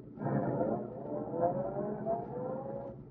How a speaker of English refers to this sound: Roadster's pulling out. That dirty rat's going to run Lowry down right in the middle of the street.